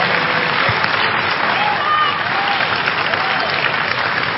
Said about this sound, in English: Look, some of you are not clapping.